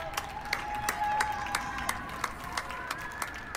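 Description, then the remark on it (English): Hundreds of New Yorkers in New York, hanging out of their windows and sitting on their stoops, clap together for medical workers on the front lines in a steady, even rhythm of about three claps per second, with a sustained high tone running underneath, like a whistle or horn. “It's hundreds of New Yorkers who all hung out their windows and sat on their stoops at the same time to clap for the medical workers on the front lines.”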